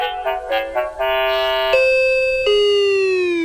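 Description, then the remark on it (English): A melodic doorbell chime plays: a quick run of short bright notes, then three longer ringing tones that sustain and slowly fade, with no voices. “I'm sure we have a doorbell that suits you.”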